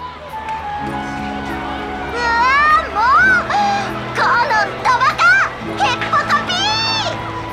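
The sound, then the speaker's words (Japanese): Children shout and squeal excitedly while playing, their high-pitched voices overlapping in bursts over a steady background hum, loud throughout. “子供たちに負けないくらい声が聞こえてきます。”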